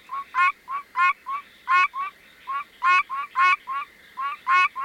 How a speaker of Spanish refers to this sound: Les presento ahora, señoras y señores, a la rana arborícola de los pinos.